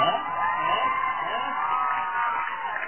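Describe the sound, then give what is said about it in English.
A crowd cheers and shouts continuously, a dense wash of many excited voices with higher yells and whoops mixed in, steady and loud throughout. “I was wondering, like, are they cheering because...”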